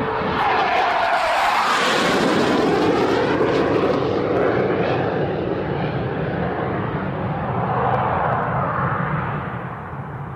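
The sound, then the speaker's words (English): A loud airplane roars overhead at the Chicago Air and Water Show, a broad jet-engine rumble whose pitch sweeps down and then swells again before easing off, with no voices. “It's the Air and Water Show. It's here this weekend, so Chicagoans, get ready to have all your conversations interrupted by this.”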